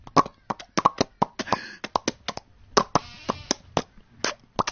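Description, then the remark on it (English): A rapid, uneven series of wet mouth clicks and pops made with the tongue against the side of the mouth, mouth open, tongue out: about two dozen sharp smacks imitating a fish flopping out of water. Some clicks come in quick pairs, with brief gaps between. “Now this, fish out of water.”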